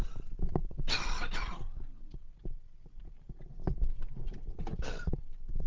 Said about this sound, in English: And the most important point for me, sorry, I'm just gonna have to cough again.